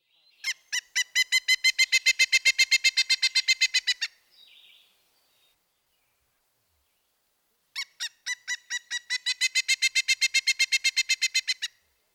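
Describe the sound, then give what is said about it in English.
A pileated woodpecker calls in two long bursts of loud, ringing notes, each series starting a bit spaced then running rapid and steady, with a short pause between bursts and no talking. “First the flicker, next, the pileated.”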